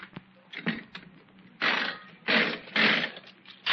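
A nickel slot machine is played: sharp mechanical clicks, then several loud bursts of whirring, rattling reels. No voices.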